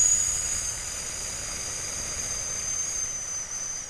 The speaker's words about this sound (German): Und dann atme mal für 5 Sekunden durch die Nase ein und lass mal deinen Bauch rauskommen. Und für die nächsten 5 Sekunden atmest du durch einen gespitzten Mund so.